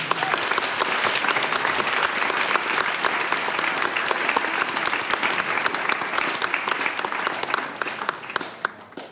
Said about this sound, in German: Und darum dürfen wir jetzt nochmal klatschen, bitte.